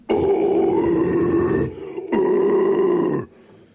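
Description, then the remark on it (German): Two loud, raspy growled vocal bursts demonstrating the growling vocal technique, each about one and a half seconds, with a rough, gritty low voice and a brief pause between them, no words spoken. “Das ist Growling.”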